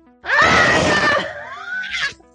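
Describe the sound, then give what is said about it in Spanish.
A human voice imitating creepy screams lets out a long, wavering, eerie scream lasting about two seconds, loud, trailing off with a brief strained cry at the end. “Nota, los pantalones hablaron y hacen ruidos como gritos espeluznantes.”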